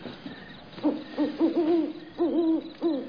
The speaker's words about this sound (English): Hey, Owl, if you're so wise, why don't you go to sleep? It's the middle of the night.